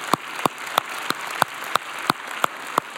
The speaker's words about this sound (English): Yeah, we can clap for my mom.